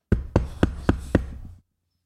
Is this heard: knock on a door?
yes